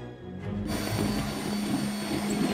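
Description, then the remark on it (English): A power drill whirs up and runs steadily, a constant motorized whine with a gritty grinding edge as it drills a hole through the base of a glass display case from inside the cabinet below, with no one speaking. “Calvin crawls out of the bag and drills a hole through the base of the glass display case above.”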